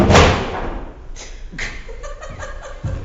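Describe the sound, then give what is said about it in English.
A hymnal book, one of those kept under the chairs, drops with one heavy, dull thud that fades quickly, followed by a few softer knocks and shuffling sounds, with no one speaking. “We keep quiet hymnals under the chairs. I remembered that about the time it fell.”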